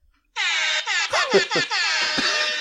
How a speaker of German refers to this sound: Also in der Regel bringt solch ein Sound bei Leuten den Echo zum Verstummen. Was? Na, der war Meta, weil wenn … live spielt, bringt der DJ mega oft dieses Airhorn.